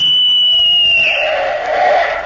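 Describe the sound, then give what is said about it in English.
A single loud, shrill whistle blast, like a police whistle, blown from bushes at the corner of a schoolyard at passing motorists, holds a steady high pitch for about two seconds, turning breathier and rougher toward the end. “I remember I used to hide in the bushes on the corner of the schoolyard during recess and give a blast of my whistle, which sounded like a police whistle to passing motorists.”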